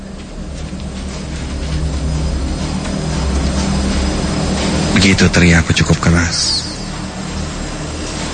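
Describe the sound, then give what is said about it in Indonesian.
A loud, steady machine drones and rumbles throughout, heavy in the low end, while a person speaks briefly over the noise partway through. “Karena, ya, maklumlah, suara mesin tersebut sangat bising.”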